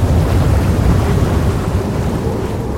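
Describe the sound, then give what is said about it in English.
A steady, loud roar of churning, spinning water with deep rumbling and wind-like rush, continuous throughout, from a whirlpool at sea pulling a rocking, shaking ship down into the water. “Then the ship started to rock and to shake, and they heard a roaring sound.”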